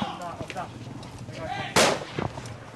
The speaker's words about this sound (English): A soldier fires a warning shot to get the man to stop.